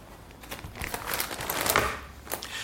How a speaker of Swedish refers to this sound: Vi bläddrar vidare i de gamla artiklarna. Sida efter sida.